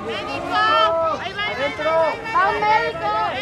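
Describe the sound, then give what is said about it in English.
Several volunteers shout and call out loudly over one another for supplies, raised and urgent, amid a busy crowd at a rescue site in front of a collapsed six-story office building in the Roma neighborhood of Mexico City, with a steady outdoor background. “At this corner in front of a collapsed six-story office building in the hard-hit Roma neighborhood, people are shouting out into the crowd for supplies.”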